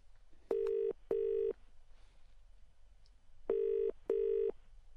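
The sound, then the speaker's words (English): Telephone keypad dialing tones: four steady, identical electronic beeps grouped in two pairs with a pause between, loud, over faint background hiss with no talking. “Pass my phone.”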